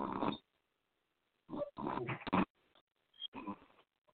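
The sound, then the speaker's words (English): Loud, rough snoring in four irregular bursts, each a harsh, gurgling snort separated by quiet pauses, with no talking. “That nigga snoring. Y'all hear that shit?”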